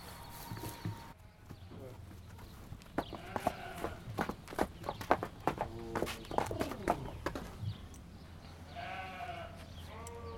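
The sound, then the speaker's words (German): Inside a stable, two heavy draft horse mares shift about, their hooves knocking in a quick cluster of sharp clops on a hard floor, followed by a brief tonal animal call near the end. “So, hier ist jetzt der Pferdestall. Hier wohnen Lisa und Rita, zwei Kaltblutstuten.”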